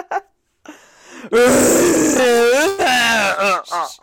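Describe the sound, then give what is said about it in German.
A red deer stag roars in a long, loud, throaty bellow with a deep groaning tone, wavering in pitch, then breaks off and gives a couple of shorter grunting roars. “Zwei Minuten röhrender Hirsch.”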